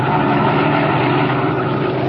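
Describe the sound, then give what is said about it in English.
A black sedan's engine rumbles steadily and loudly with a low, droning hum and broad road noise as the car slows down along a road, running on without a break for a couple of seconds with no voices. “As our story continues today, we find him and his henchman Spike in their black sedan, slowing down along the road and searching for a likely place for what Dinelli has in mind.”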